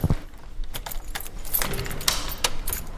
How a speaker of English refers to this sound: Can I just record you locking the door? Is that okay?